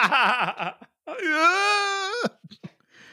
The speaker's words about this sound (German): Ein grauenhafter Schrei ertönte aus dem Geschäft. Die Menge erstarrte.